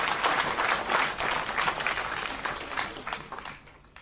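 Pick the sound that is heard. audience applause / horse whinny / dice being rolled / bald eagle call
audience applause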